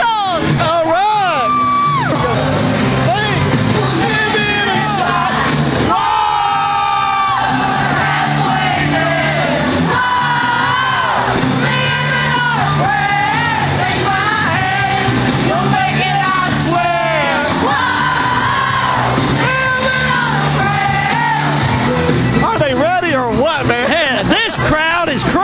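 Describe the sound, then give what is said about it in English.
A concert crowd yells, whoops and cheers loudly without pause, many overlapping voices rising and falling in a dense, excited roar that fills the whole stretch. “Yeah, I've never seen a crowd so pumped before out here.”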